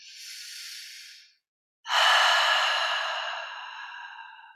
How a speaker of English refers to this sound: So the first thing that you can do is to stop and breathe. Take a deep breath in.